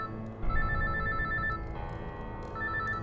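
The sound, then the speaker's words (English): A phone rings out on an outgoing call from a person's phone, with electronic ringback tones in repeating bursts separated by short pauses, clear over a low, steady background rumble. No one speaks. “I grabbed my phone and called”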